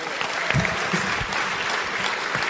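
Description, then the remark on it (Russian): An audience applauds in a dense, steady wash of clapping from many hands, loud, with no talking over it. “Подари Богу аплодисмент.”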